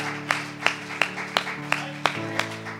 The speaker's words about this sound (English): Can you worship the Lord with a hand clap this morning? Hallelujah.